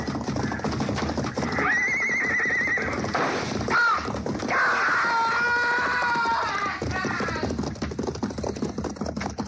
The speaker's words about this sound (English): Look, he's trying to ride the horse out.